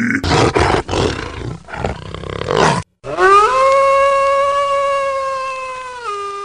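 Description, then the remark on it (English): A huge wolf creature roars loudly and gutturally for nearly three seconds, breaks off briefly, then lets out a long, sustained, tonal howl-like cry that holds steady before cutting off. “Mange had turned into a huge wolf creature.”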